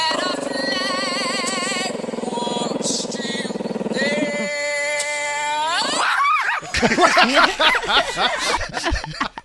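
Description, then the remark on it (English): A voice sings long, wavering notes to a chihuahua as a phone is held up to the dog, and the chihuahua howls along. Its high howl rises in pitch and breaks into a burst of loud, excited yips and whines. “Good harmony by the chihuahua.”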